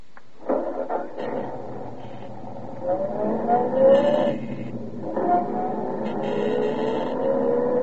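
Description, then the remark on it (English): A car engine runs steadily, its pitch rising and falling as it drives along, with a couple of brief whining shifts in tone and no voices. “Straight down the road. And I'll be following along in my car.”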